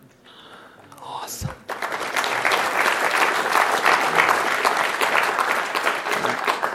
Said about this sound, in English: All right, now again, I want to give the networking gentleman a round of applause.